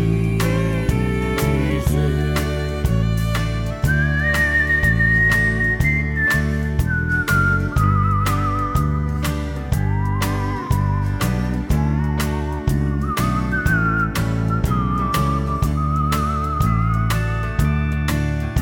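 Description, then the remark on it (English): A grandmother whistles a slow, wavering hymn-like melody, clear and up front, over a steady instrumental backing with a regular rhythmic pulse. No one speaks. “Grandma whistling, what a friend we have in.”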